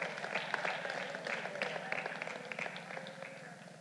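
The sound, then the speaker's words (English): A crowd claps steadily in dense, continuous applause, many hands overlapping at moderate volume, with a faint murmur of voices underneath. “I need somebody to clap right about now.”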